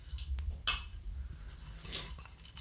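Glasses of a sweet iced-tea drink called Candy Shop, with ice, clink together in a toast, a quick bright chink followed by a second, slightly longer rattle of glass a moment later, both fairly soft over a low background rumble.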